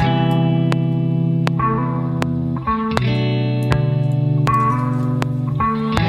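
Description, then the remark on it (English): An electric guitar plays sustained, chord-like tones with a wide reverb wash, sharp picked attacks recurring at a steady pulse and the notes blooming into a lush, shimmering tail, fairly loud and without any talking. “Now, to help these vibe a little bit more, I think I'm going to add some reverb.”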